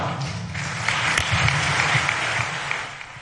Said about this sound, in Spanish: Apoyo coronado por una ovación cerrada en la que hemos visto una de las imágenes del día, no por esperada menos impactante,